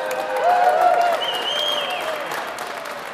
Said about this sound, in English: So a big hand for our legislative supporters.